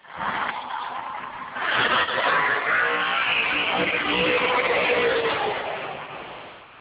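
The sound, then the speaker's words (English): A drag race car does a tire burnout in the burnout box, a loud, continuous roar of engine and screeching rubber that surges after a moment and holds steady before easing off at the end. “He still in the burnout box?”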